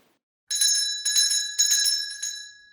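A small, bright bell rings in four quick shaken bursts about half a second apart, its high metallic tone shimmering and lingering, fairly loud with no voices.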